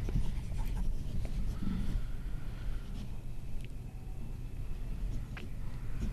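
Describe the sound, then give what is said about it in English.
Steady scratching of a pencil worn down to a nub moving across paper during a quiz, with short sharp strokes now and then over a constant low rumble in the background; no one speaks. “I can see that he's wore that pencil down to a nub, I think.”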